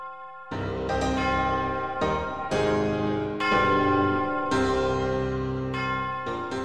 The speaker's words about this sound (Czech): Mohli bychom se teď na tento zvon podívat trochu blíže z technického hlediska? Tak výška zvonu je 1,69 m, průměr dole je 205 cm, hmotnost je těch 8 tun a ladění je do C1.